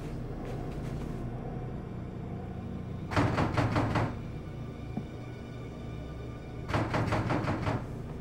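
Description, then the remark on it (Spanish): A bedroom door in an apartment closes twice in the early morning hours, each a brief rattling clatter about three seconds apart, over a steady low rumble with no voices. “Cuando volvió a casa en la madrugada, oyó la puerta del dormitorio cerrándose.”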